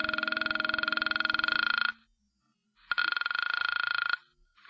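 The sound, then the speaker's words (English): A telephone rings twice as a call is placed, each ring a buzzy, warbling electronic tone lasting about two seconds, separated by a short silence. No voices are heard. “So I call the phone number next to the name on the pad that reads Janice.”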